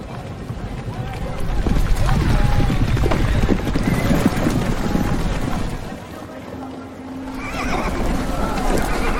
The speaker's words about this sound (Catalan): Ja sentim el trot dels cavalls, eh?